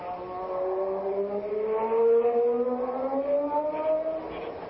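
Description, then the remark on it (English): A car engine revs up and accelerates away, its pitch climbing steadily over several seconds, loud with a low, gritty rumble throughout; it is Heinrich's other car, the murder car, being driven off to catch Nosey. “Now to catch Nosey with Heinrich's other car, the murder car, before he runs it off Lover's Leap into the sea.”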